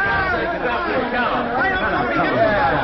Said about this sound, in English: Heavenly days, look at the crowd